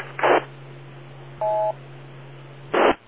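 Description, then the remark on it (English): A single short electronic beep, a steady mid-pitched two-tone chirp lasting about a quarter second, falls between two brief hissing bursts of radio static over a constant low hum. No one speaks. “I hear the beep, so I start looking at my car.”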